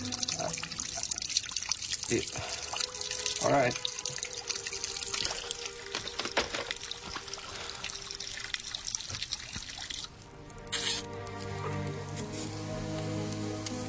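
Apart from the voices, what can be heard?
water dripping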